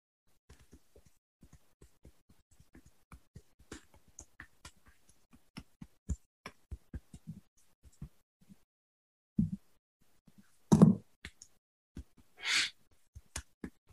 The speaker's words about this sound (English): We're going to go thumping on the center of the chest, because this is the area where we often will feel stress.